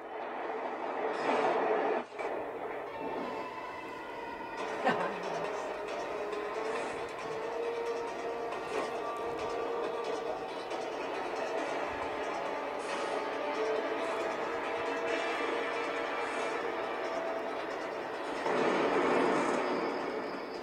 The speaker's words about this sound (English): Train!